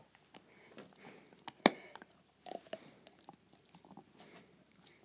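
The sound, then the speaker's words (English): A dog, Vance, gnaws on a hard, normal-size sport chew, with a run of irregular crunches and clicks and one sharp loud crack early on, then softer wet chomping in bursts. “You got the chew, the noise.”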